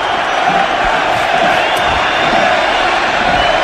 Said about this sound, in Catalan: Crits de fuera, fuera, ara Montjuïc, els jugadors del Barça molt atents al que digui l'àrbitre.